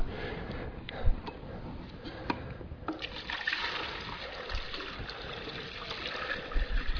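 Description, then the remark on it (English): Liquid is poured steadily back into a container, a continuous splashing trickle with a few small clunks, fairly quiet, with no voices. “Can we pour that back in here?”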